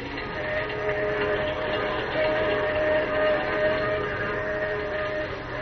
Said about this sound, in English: As the train roars into the night, he and Manfred talk softly outside the door of Lois's dressing room.